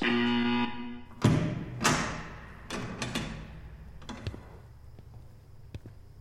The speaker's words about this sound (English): Hey, is this that, like, two-way glass where it's a mirror on the other side? Sir, please don't knock on the glass. What are you doing? Now he's gonna know we're in here.